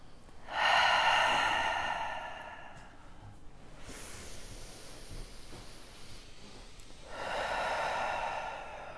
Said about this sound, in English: So what we'll do is right now, I want you to just close your eyes, take a breath, take three breaths.